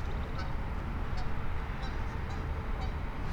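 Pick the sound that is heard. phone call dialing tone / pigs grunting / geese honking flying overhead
geese honking flying overhead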